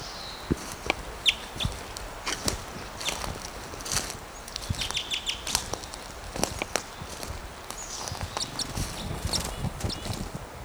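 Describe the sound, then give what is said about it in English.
A small male bird gives sharp, repeated alarm chips at irregular intervals while being chased by a western tanager, mixed with crunching footsteps and rustling outdoors as a person runs at the bird; no one speaks. “Gave some alarm calls, being chased by a western tanager.”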